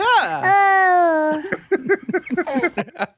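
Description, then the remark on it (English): A voice imitates baby babbling: a long, high, wavering coo slides downward, then breaks into a quick run of choppy, bouncing nonsense syllables, fairly loud. “I can just picture this little toddler like on Mark's shoulders, making those noises”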